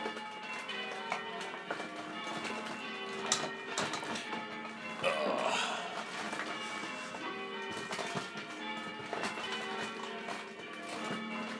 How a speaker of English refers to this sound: Well, this is Geo's first morning with the bells going, which, well, he's going to have to get used to.